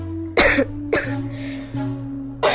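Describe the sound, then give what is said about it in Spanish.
Several harsh, chesty coughs in close succession from a feverish man who cannot breathe and feels a weight in his chest, loud, with strained breathy bursts between them; no one speaks. “Tengo un peso aquí, en el pecho, y una tos que me lastima.”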